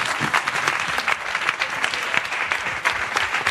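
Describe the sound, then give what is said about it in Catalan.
Steady audience applause, a dense wash of many hands clapping at an even, sustained loudness throughout, with no voices rising above it. “N'hi ha prou? Un aplaudiment, clar que sí.”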